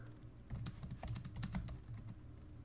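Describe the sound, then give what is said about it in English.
Rapid typing on a computer keyboard as someone looks up a quote, a steady stream of light clicks and taps with uneven rhythm, continuing throughout with no voices. “If you hear typing, it's because I'm typing.”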